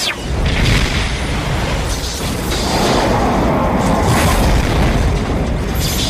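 A loud, sustained explosion roars for several seconds, a dense booming rumble with crackling debris-like texture that stays heavy and steady throughout, with no voices.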